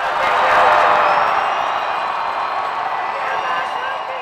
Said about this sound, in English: Demonstrators filled the rotunda of the Utah Capitol and directed their voices at the House chamber.